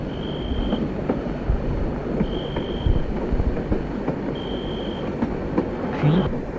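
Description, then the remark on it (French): A train approaches in the dark, rumbling steadily over rails that vibrate more and more strongly, with dense low clatter and scattered clicks, while a thin high-pitched whine recurs three times at regular intervals, then a brief rising squeal near the end. “Il entend un bruit qui fait de plus en plus vibrer les rails.”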